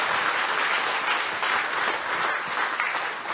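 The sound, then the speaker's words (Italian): An audience applauds for Jesus in a church service, a dense wash of many hands clapping at a fairly loud, even level throughout, with no voices rising above it. “C'è un applauso a Gesù e poi vi potete sedere.”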